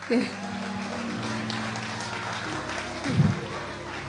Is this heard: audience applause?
yes